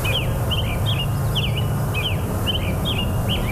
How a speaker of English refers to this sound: Birds sing in the small woods at the top of the lake bluff. This is part of the Cedar Gorge Clay Bluffs, a nature preserve that the Ozaukee Washington Land Trust has been trying to protect for more than a decade.